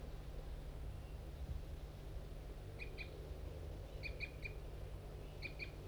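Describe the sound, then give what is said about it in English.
Wild birds of the large race, likely two females in a pine tree, give a few short, high flight calls in three quick clusters of two or three notes each, faint over a steady low rumble, with no one talking. “I think two females are still in that pine tree and they were giving a few flight calls.”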